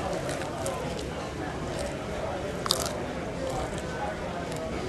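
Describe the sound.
Steady crunching and chewing as someone bites head first into a palm-sized, salted crunchy water bug at a restaurant in Santa Monica, with a few sharper crackles standing out over a continuous munching texture and faint voices underneath.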